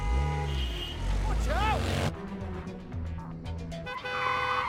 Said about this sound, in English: A red Mini brakes as English walks out into the road.